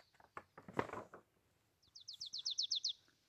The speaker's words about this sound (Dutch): Dan ineens hoor je getik in de boom. Alsof iemand in de stam van de boom aan het hakken is. Tik, tik, tik, tik. Het is een specht.